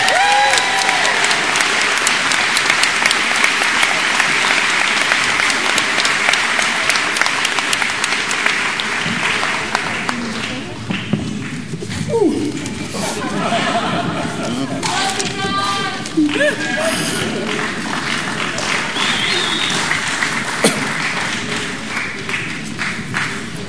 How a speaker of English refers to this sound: Welcome them with a big hand of applause.